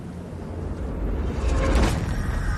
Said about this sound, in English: He shuts the door behind himself.